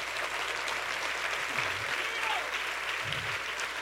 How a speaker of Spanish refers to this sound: Si usted quiere, aplauda, y si no, no.